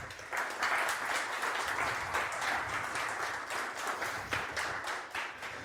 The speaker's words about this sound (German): ein kleiner Applaus für dich.